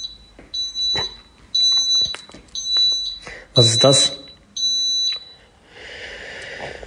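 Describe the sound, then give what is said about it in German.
A smoke detector alarm beeps loudly and shrilly, repeating about six times at a quick, uneven pace, while a person briefly speaks between the beeps. “Klingt ein bisschen erschreckend und so ein bisschen wie mein Rauchmelder.”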